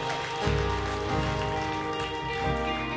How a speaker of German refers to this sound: Hey, können wir den Leuten einen riesengroßen Applaus geben für diese Entscheidung, die sie getroffen haben?